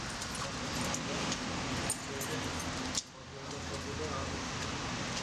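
Keys jangle and clink over a steady background hiss, with a sharper metallic rattle near the middle as a young woman drops them back into her bag at a door with a padlock.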